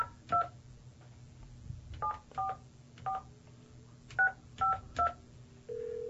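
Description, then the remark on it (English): Seven touch-tone phone beeps, spaced unevenly as a number is dialed over a low background hum, then a steady ringback tone starts at the very end. “Why did it start ringing already?”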